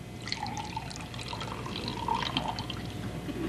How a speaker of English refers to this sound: He opens the fridge and grabs a nearly empty milk bottle. Flipping the lid off, he fills the bottom third of his glass.